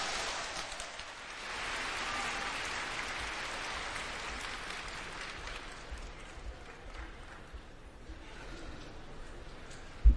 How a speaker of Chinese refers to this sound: 好，掌声有请。